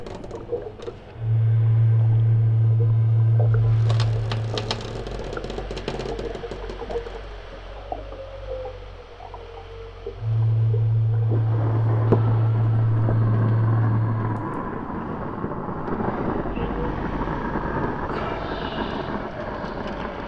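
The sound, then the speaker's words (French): Two long, deep horn blasts from large boats passing on the water, separated by a pause, over a steady low rumble of engines and water; no one speaks. “Elle croise de grands bateaux”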